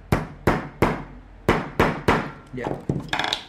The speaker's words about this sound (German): Wir etablieren ein kleines Fließband und teilen die Arbeit auf. Nägel auswählen, kürzen, ins Lineal hämmern.